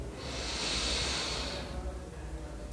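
A single deep, audible inhalation drawn in slowly over about a second and a half, a breathy hiss that fades, followed by quiet; the first of three deep breaths taken together in a guided breathing exercise.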